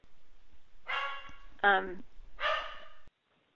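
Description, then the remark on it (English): A dog barks three times in fairly quick succession, each bark short and full-throated, moderately loud, with quiet background in between. “are you okay there with your dog?”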